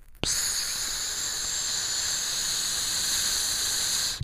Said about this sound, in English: You hear that? You hear what that is? That's the seasoning that I'm putting on the steak.